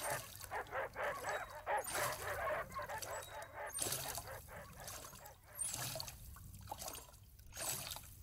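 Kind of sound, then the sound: animal, dogs barking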